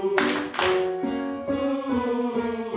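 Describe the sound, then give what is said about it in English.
Two sharp hand claps, about half a second apart, during a choir singing exercise, cut through a sustained sung vowel that keeps going steadily after the claps end. “Get back to good singing posture after those claps.”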